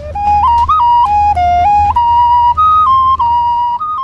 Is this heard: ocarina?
yes